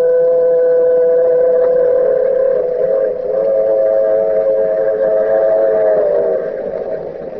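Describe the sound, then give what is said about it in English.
A train horn blows a long, steady chord over the rumble of the Blue Comet train racing across the flatlands of the southwest, loud, sustained for several seconds before fading slightly at the end. “Yes, and the train. The shiny metal serpent racing across the flatlands of the southwest.”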